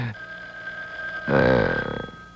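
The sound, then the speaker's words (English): A telephone rings with a steady, high-pitched bell tone that suddenly swells louder and buzzier partway through, continuing until the end without any voices. “You see how the ring sounds? Nervous? Like the guy has no cool at all?”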